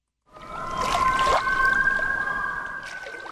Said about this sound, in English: Loons are loved for being mysterious, elegant, and for their familiar, haunting cry. But scientists say that cry could serve as a warning about the effects of climate change.